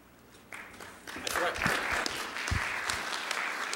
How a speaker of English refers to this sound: I forgot to mention earlier that this paper won Best Student Paper. So now let's give them a round of applause.